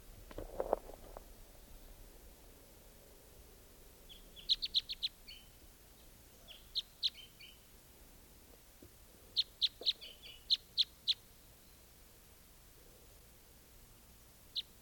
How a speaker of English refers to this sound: Is that bird again?